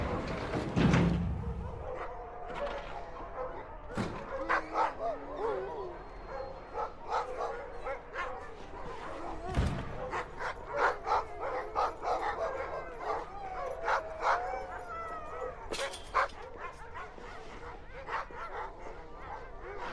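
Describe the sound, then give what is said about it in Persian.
A dog named Jake barks close by in quick, excited bursts, mixing sharp yips and whimpers throughout, with a person's voice briefly heard alongside. “گرفتیش گرفتیش، چه سگ خوبی، عجب سگ خوبی هستی جیک.”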